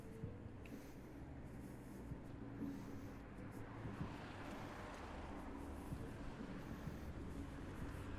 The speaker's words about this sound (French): Et nous quittons le bruit des voitures comme on quitterait une plage.